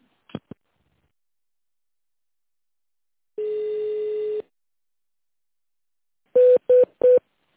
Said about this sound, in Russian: Если вы знаете добавочный номер сотрудника, пожалуйста, наберите его в тоновом режиме или дождитесь ответа секретаря.